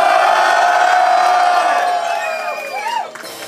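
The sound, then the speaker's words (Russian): A loud crowd roars, cheering and shouting in a sustained wall of noise after being urged to make noise as the DJ is told to drop the first beat, with a few high whoops rising over it before the din starts to fade near the end. “Диджей, мочи первый бит, поехали, дайте шуму!”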